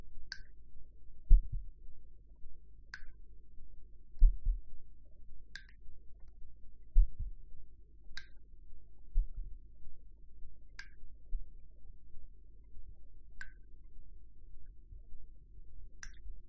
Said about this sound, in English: My heartbeat crashes in my ears, slow and echoing, and I feel the creature shuddering in time with it.